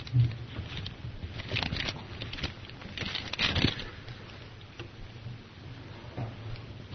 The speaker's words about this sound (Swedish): Aposteln Johannes stryker under det här med att Kristi gudom är så avgörande i sitt första brev, andra kapitlet, vers 22 och 23. att bläddra fram det.